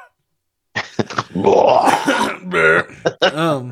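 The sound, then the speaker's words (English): A rough, gurgling burp rises in pitch for about a second, surrounded by short throaty voiced bursts that resemble throat clearing, with no clear speech. “Excuse me, I had to burp.”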